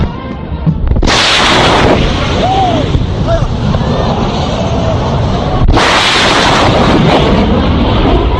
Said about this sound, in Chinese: 你知道超音速必然产生激波，激波是一个强压缩波，这个波传到人耳就是音爆，而且音爆它折磨的还不是飞机里的人，而是地面的人，跟打雷一样。